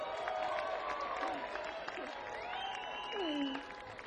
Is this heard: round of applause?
yes